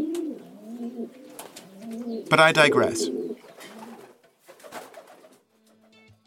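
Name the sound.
pigeons cooing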